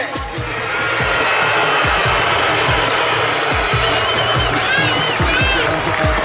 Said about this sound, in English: Because Altuve was getting booed. 27, Jose Altuve.